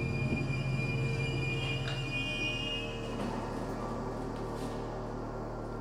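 A train rumbles steadily in the low end while its wheels let out a thin, high-pitched screech, then a couple of brief squeals as it slows, pulling into its final station. Continuous, with no voices.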